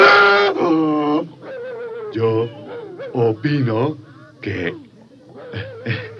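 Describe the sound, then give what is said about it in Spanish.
A human voice imitates a donkey's bray, with a strained, harmonic hee-haw followed by several shorter, wavering honks in uneven bursts, loud. “El burro Canuto levantó con sorpresa sus grandes orejas y lanzó al aire su acostumbrado rebuzno”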